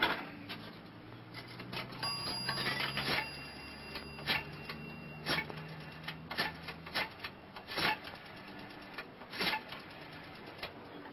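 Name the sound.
telephone number being dialed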